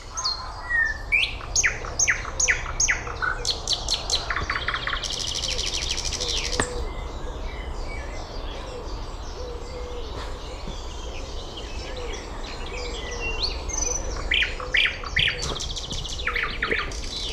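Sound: nightingale singing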